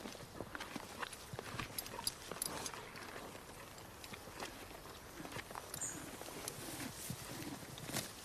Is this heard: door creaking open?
no